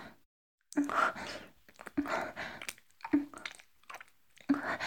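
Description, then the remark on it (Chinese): Wet licking of a Black man's shoe: four moist, slurping strokes at a steady pace roughly a second apart, moderately loud, with no talking. “而且我的舌头就像小狗舔骨头一样，完全停不下来。”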